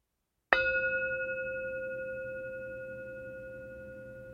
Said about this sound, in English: When you hear the bell ring, just bring your full attention to it and then wait for more instructions.